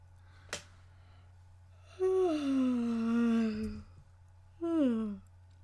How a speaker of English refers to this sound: And I just yawned. You know, yawning's contagious, so, like, there's a high chance that if you listen to this and you hear me yawn, you're probably gonna be...